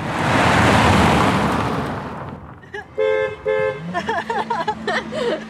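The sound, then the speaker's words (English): A loud rush of passing traffic fades, then a car horn beeps twice in quick succession, followed by people talking, at Bebop's car park in Letterkenny. “Why are you beeping at your man?”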